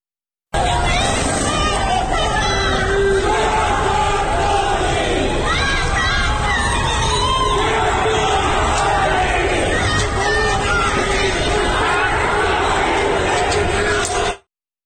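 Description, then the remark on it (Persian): A large crowd of night-time street protesters in Tabriz, Iran, who have blocked streets and lit fires, shouts and chants slogans together in a dense, continuous roar of overlapping voices, with rising and falling collective cries sustained at full loudness for the whole stretch. “و بالاخره ویدئوهای منتشر شده از تظاهرات شبانه در خیابان‌های تبریز هم نشون میده که مردم با کندن تابلوهای راهنمایی و وسایل دیگه برخی خیابون‌ها رو بستند و آتش افروختن و شعار میدن.”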